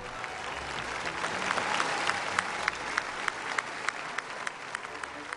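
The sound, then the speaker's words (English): A large crowd of Catholic faithful cheers and applauds as the Pope appears at a celebration, in a dense, continuous wash of clapping with sharp individual claps popping out now and then. The sound holds steady and loud throughout, and no single voice stands out. “And when the Pope appeared, so loud were the cheers of the faithful gathered there, they must surely have echoed right inside the great nave of the Mariendom.”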